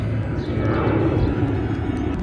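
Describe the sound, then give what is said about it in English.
A steady, low rumbling roar of a passenger plane passing overhead, continuous and fairly loud throughout with a broad droning hum and no voices. “Just like these travelers on the plane that is going overhead.”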